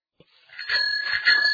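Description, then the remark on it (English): A bicycle bell rings in a bright, metallic trill that starts up after a brief quiet moment and keeps ringing steadily, its high tones sustained with slight pulsing until the end. “Look out! A bike is coming!”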